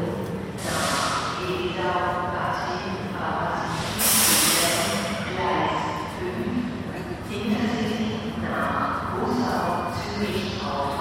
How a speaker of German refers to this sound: Wir warten jetzt, damit wir uns weiterhin verstehen, bis die Durchsage vorbei ist.